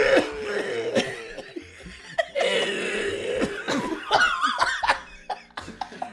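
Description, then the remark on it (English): A person makes a string of exaggerated, raspy fake coughs, fairly loud, with short bursts mixed with throaty laughter-like sounds over about six seconds, imitating a personified Mother Earth who talks in coughs. “But she talks like that. Right, it's all coughs.”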